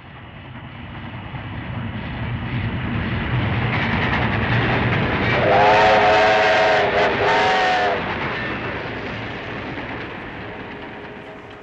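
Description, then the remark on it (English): A train travels through India, rumbling along the rails with a steady low roar, swelling as it passes by, while a brief high whistle-like tone sounds in the middle before the noise gradually fades. “he and his travelling companion, the Frenchman, Mr. Passepartout, are travelling through India by train”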